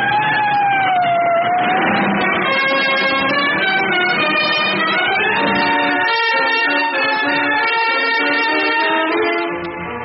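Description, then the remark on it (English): A police siren wails loudly, its rising and falling tone sweeping continuously for about ten seconds over a low rumble of traffic, with no one speaking. “A siren screamed.”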